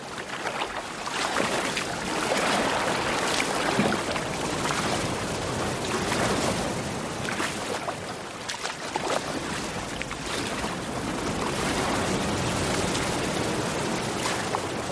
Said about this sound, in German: Ich schnappe mir Annettes Kajak und paddle durch die Brandung, ohne zu kentern.